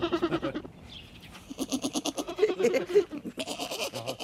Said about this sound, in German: So. Es hat eine lustige Sprache, ja, so eine kleine Ziege. So klein und schon so meckerig.